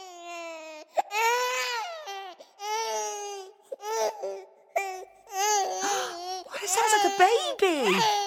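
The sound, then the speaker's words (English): A baby cries loudly in a string of high, wavering wails, each burst rising and falling in pitch with short gasping breaks between them, growing more frantic toward the end. “He hurried to the next room and tried to soothe the baby.”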